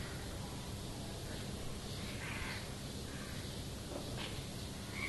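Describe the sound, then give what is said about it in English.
A few harsh crow caws ring out in short bursts, moderately faint, over a steady hiss of outdoor background noise with no one speaking. “Ka, ka, ka, ka, ka. Even amongst the birds they will find swan, white swan, and the black crow.”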